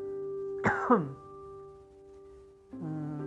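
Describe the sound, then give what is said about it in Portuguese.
A sharp double cough, two quick rough bursts, over a steady low electrical hum; after a short pause a voice starts speaking. “desculpa aí por essa tosse, viu?”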